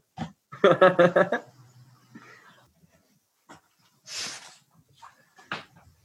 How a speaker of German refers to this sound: Ich muss jetzt unbedingt Nase putzen. Ich versuche die ganze Zeit zurückzuhalten. Ich habe echt von den Tränen in den Augen.